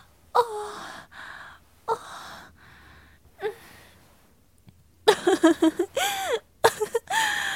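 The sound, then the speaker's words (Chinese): Breathy gasps and voiced moans: a few spaced breaths at first, then a faster, louder cluster of panting moans toward the end, with no talking. “那就叫出来啊，让老师也听听你淫荡的喘息声。”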